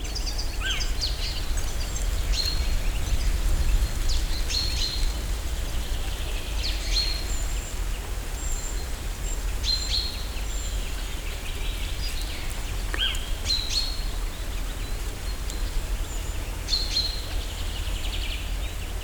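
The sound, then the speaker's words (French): Several birds chirp and sing at dusk on a mountain, marking their territory before nightfall, in short scattered bursts against a steady outdoor hiss, their calls overlapping from different distances with no voices present. “Les oiseaux commencent à chanter, enfin, à marquer leur territoire pour la nuit qui va bientôt tomber.”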